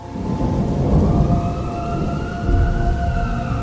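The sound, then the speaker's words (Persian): Steady heavy rain hisses throughout while deep thunder rumbles low and continuous underneath, swelling slightly midway. Faint sustained tones hover above the downpour; no one speaks. “نعیم زیر بارون نشسته و گریه میکنه.”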